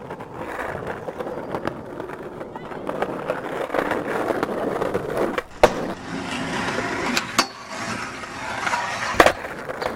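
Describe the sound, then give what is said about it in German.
Skateboard wheels roll with a steady gritty rumble as a skater makes his approach and attempts a backside lipslide, broken by two sharp board clacks, and a scraping slide across a rail or ledge runs in between. “Verehrte YouTube-Gemeinde, hier sehen Sie den weltbesten Whipper bei seiner Anfahrt. Wird er es schaffen, einen Backside-Lipslide?”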